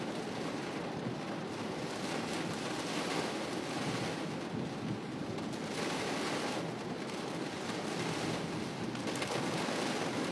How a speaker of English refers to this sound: It's raining pretty fucking hard. Wow.